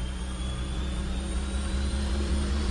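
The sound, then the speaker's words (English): A steady, loud roar like a jet engine, with a deep rumbling low end and a thin whine on top, holding constant throughout with no voices. “A huge noise would occur. It'd be like, you know, a jet engine.”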